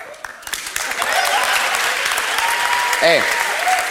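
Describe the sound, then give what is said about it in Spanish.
A crowd claps steadily and fairly loudly throughout, a dense rattle of many hands, with a brief shout or cheer rising out of it near the end. “Cada uno que aplauda lo que quiera.”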